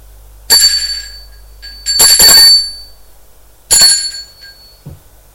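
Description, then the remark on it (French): An apartment doorbell rings three times: a short ring, a longer double ring, then another short one, each a bright, high metallic jangle with silence in between. “Il va sonner à la porte de l'appartement.”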